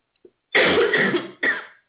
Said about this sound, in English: Well, while I let you get rid of that cough, I'm going to put you on hold.